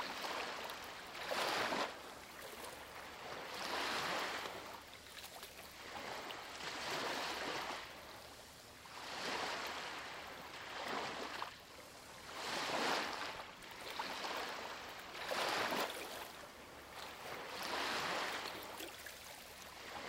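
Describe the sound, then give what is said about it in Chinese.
Ocean waves wash in and recede in a steady, repeating rhythm, each broad hissing surge swelling and fading roughly every two and a half seconds, fairly loud with no voices. “想象自己的思绪就好像这些细碎的东西，随着浪花来来去去。”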